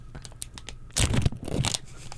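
A close plastic zipper bag is pulled open with a loud tearing rip, followed by bursts of crinkling plastic, after a few faint ticks and rustles.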